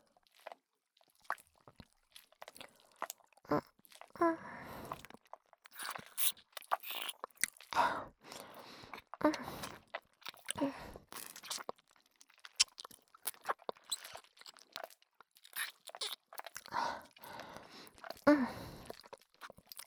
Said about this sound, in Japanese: 私の大事なご主人様の可愛いお耳、もぐもぐするの、幸せですわ。